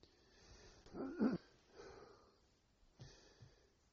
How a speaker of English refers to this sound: sorry, I'm coughing again